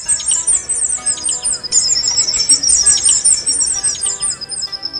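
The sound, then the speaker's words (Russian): Possums call back and forth in rapid, high-pitched chirps and twitters, almost birdlike, overlapping continuously over a faint background hiss with no talking. “Вот такими, почти птичьими голосами поссумы перекрикиваются друг с другом.”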